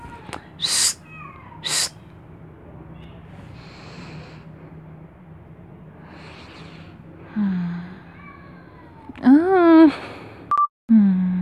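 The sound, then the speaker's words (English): A cat lets out a drawn-out, wavering meow near the end, preceded by a softer brief call. Two short, sharp noisy bursts come early over a quiet, low background hum. “Ah, come on, cat.”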